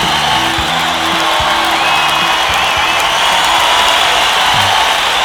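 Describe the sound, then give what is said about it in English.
A large crowd cheers wildly, a dense, loud roar of voices with whoops and shouts rising out of it, holding steady for the whole five seconds without a break. “Yes, and the crowd goes wild, the way they always do.”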